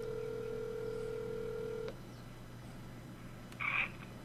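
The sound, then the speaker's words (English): A steady telephone tone hums for about two seconds and cuts off as someone calls a man on the phone, then after a pause a short, higher electronic ring-like beep sounds once. No one speaks. “I'm trying to call him again myself, too.”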